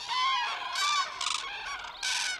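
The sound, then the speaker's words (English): A dense chorus of honking, trumpeting calls from a large flock of cranes gathered in a wetland in early morning before migrating north, many birds calling over one another in a continuous, loud din with no pauses. “The din of honking from a large flock of cranes can be heard from miles away.”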